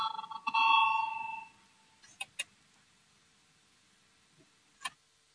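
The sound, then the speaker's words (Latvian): A single electric bell, the voting bell of the Latvian Saeima rung before a vote on proposal 129, rings brightly for about a second and a half, then cuts off, followed by a few sharp clicks and taps. “Lūdzu, zvanu, balsosim par 129. deputāta Valājņa priekšlikumu.”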